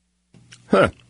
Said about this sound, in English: Well, that was interesting. Didn't think that was going to happen, but it did. So a little cough there I had to clear up.